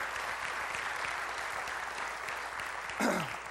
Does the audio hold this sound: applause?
yes